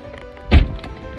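A car door opens with a single solid, low thunk as someone gets into their car, followed by a faint click and quiet background hum.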